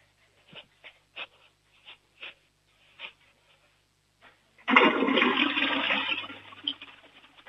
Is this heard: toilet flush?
yes